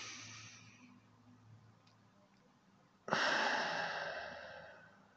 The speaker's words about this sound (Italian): E il modo in cui fai questa cosa, l'ho detto mille volte ed è sempre questo, ti fermi e prendi un bel respiro.